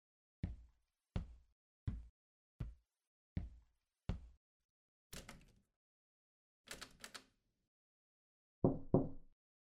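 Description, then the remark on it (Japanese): Six steady, evenly spaced knocks on the door of a school brass band club's preparation room, fairly loud, followed by a pause, some shuffling and scraping, and a couple of dull clunks as the door is handled and the club's advisor teacher comes out. “準備室をノックすると、中で楽譜の整理をしていたらしく、しばらく間を置いて顧問の先生が出てきた。”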